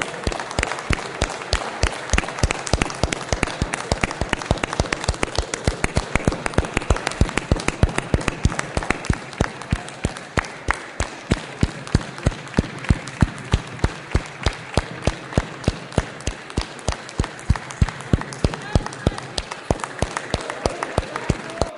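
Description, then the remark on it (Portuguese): Sustained applause from a large crowd in tribute to Paulo Gustavo and to the teachers and children of the creche in the city of Saudade, dense overlapping claps continuing steadily for about twenty seconds at a fairly loud, even level. “E eu peço para que todos vamos fazer uma aplaudam.”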